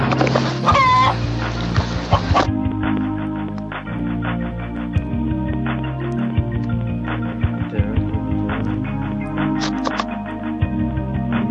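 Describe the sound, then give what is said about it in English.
Repeated clucking from a chicken sound effect, fairly loud, with a busy rhythmic backing of tones beneath it, as if the effect is playing over music. “He's got the peck peck chicken.”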